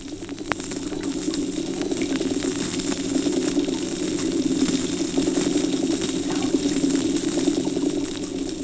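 Underwater fish noises recorded off the coast of Crimea: a steady, dense low-pitched rumbling drone runs throughout, with faint scattered clicks and crackles ticking over it at an even loudness. No voices are heard.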